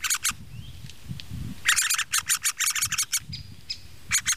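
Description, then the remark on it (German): At least three nestling birds in an oak tree call loudly in rapid, high-pitched bursts, a dense run of insistent begging chirps repeating in quick succession over a low rumble, with a thin whistle in the background. “Wenn die ganze Zeit so rumschreien, das machen die jetzt durchgehend, bis die Flügge sind.”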